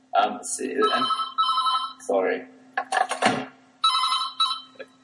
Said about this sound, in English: Sorry, the phone.